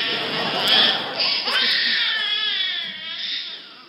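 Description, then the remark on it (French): A baby cries loudly and continuously in a high, wavering wail, with no other sounds around it. “Ça va mon bébé, j'arrive, maman est là, je suis là, je suis là, je suis là, j'arrive.”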